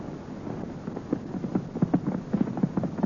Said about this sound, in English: let's slow down to a gallop. All right.